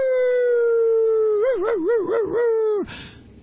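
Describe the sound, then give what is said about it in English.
A woman's voice howls like a wolf in one long, loud, steady note that breaks into a wavering warble before cutting off abruptly, leaving faint background noise. “In one of the video clips that he showed on one of his videos, there's a woman who says that God told to howl like a wolf.”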